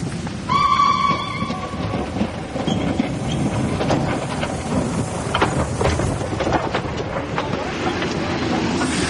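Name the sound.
train running on rails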